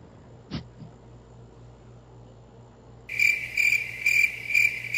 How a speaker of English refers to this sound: Crickets, damn it.